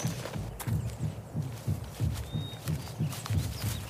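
Horse hooves clop in a steady, even rhythm, a walking gait of soft thuds repeating about every third of a second, with faint rustling and no voices, as riders dismount.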